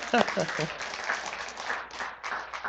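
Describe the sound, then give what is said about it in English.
An audience applauds in a steady, dense wash of clapping that holds for a few seconds, with a brief voice or cheer rising over it at the start. “Yeah, you can clap.”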